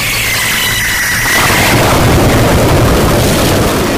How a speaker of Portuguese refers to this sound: Rapaz, olha, tome cuidado com o foguete, que eu acabei de ver um vídeo aqui de um cara que tocou um foguete aqui, um rojão, né?